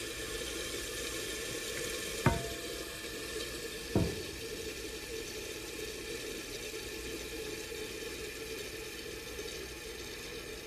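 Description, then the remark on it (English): A toilet tank fills with water, stopped by a float valve, in a steady, continuous hiss and rush, with two brief clunks near the start and no one speaking. “This fills up with water, and the float helps it to stop.”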